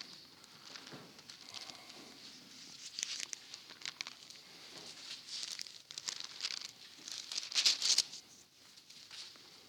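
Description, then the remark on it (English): Thin Bible pages rustle and flip continuously as everyone turns to Exodus chapter 15, many overlapping crinkly swishes with no talking, swelling in bursts and peaking loudest near the end before settling. “Well, everybody hold your place here and turn to Exodus chapter 15.”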